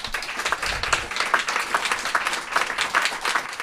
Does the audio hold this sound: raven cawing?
no